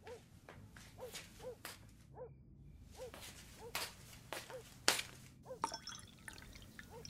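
Bottled water glugs and splashes as it's poured from a bottle into a glass, with bubbly gurgles, a few sharp clinks and taps, fairly quiet, no talking.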